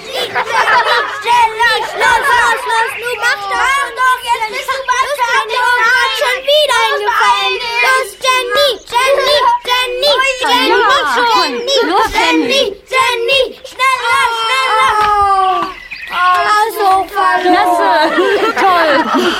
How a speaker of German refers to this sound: Auf der Wiese vor dem Tanzzelt jubelten die Kinder Jenny zu, die beim Dreibeinrennen mitlief.